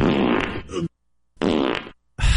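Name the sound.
fart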